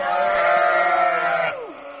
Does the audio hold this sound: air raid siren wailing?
no